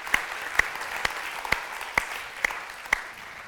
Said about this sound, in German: Können wir nur sagen, Applaus dafür.